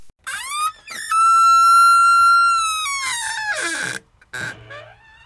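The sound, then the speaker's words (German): A loud, drawn-out squeaky creak of a small advent calendar door swinging open, holding one high pitch before sliding downward, then a couple of short squeaks and rustles. “Ich habe das nächste Türchen am Adventskalender geöffnet.”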